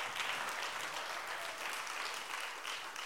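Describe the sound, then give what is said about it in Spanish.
An audience applauding for the Lord during a Spanish-language sermon, with sustained, dense clapping from many hands at a steady, fairly loud level for the whole stretch, with no voices standing out. “Déjelo el aplauso al Señor.”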